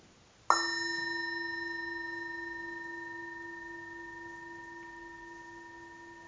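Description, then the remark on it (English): A single bell is struck once, and its bright, pure tone rings on and fades very slowly across several seconds, wavering gently as it sustains alone. “Now, if we do it with the bell or with them out there, there's a kind of narrow focus here.”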